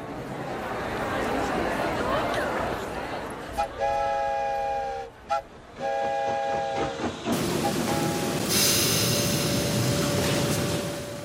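train on railroad tracks

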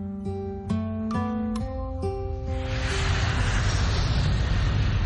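airplane flying overhead

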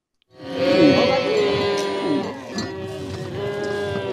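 cattle lowing

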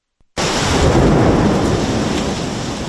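thunderstorm with torrential rain

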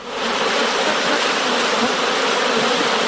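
honeybees buzzing

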